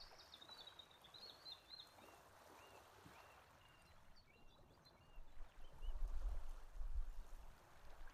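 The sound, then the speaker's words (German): Gentle water lapping at a lake shore, soft and continuous with a low rumble swelling toward the end, while faint bird calls chirp high in the background. “Höre das Plätschern des Sees.”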